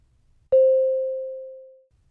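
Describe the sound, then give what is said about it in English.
A single mid-pitched beep tone starts abruptly and rings out alone, fading smoothly for about a second and a half into silence. “Start after the beep.”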